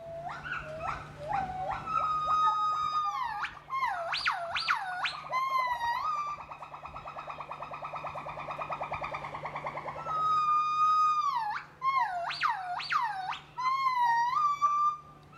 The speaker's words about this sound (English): Many a morning, I would just lie in my sleeping bag and listen for as long as the gibbons were willing to call.